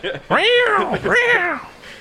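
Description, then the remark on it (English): A person mimics cats fighting, letting out two drawn-out, wavering yowls in quick succession, loud, with a brief dip between them. “I'm like cats fighting.”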